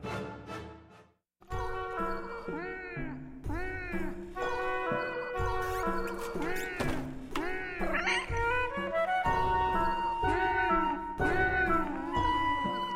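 cat meowing

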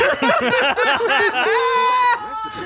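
pig squealing

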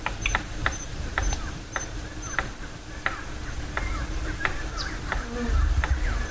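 palm cockatoo drumming

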